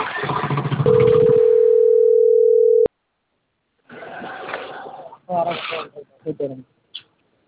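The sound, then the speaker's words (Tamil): A single steady, droning ringback tone of an outgoing phone call to a woman lasts about two seconds and cuts off abruptly. A voice talks before it, and after a pause someone starts speaking. “அப்போ அவள் எடுக்கலன்னா இப்போ அவளை ஃபோன் போகும்.”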